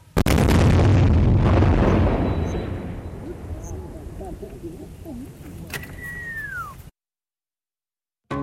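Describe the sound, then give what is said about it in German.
A controlled detonation of six old unexploded bomblets found in a field, dropped more than 40 years earlier and set off with a fuse, heard from a few hundred meters away: one heavy, deep blast rolls out into a long rumbling decay lasting a few seconds, followed by faint voices and a brief descending whistle before silence. “Mehr als 40 Jahre nach dem Aufprall der Bomben werden diese endlich unschädlich gemacht.”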